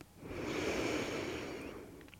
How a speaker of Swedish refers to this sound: Ta ett djupare andetag in. Andas ut. En gång till, andas in.